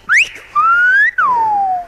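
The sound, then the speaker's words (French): A human whistle in the whistled language of La Gomera, whistling the word for brother: three sustained, gliding phrases, a quick upward sweep, a long gently rising tone, then a falling one, loud, like a whistled word. “Mi hermano, mon frère.”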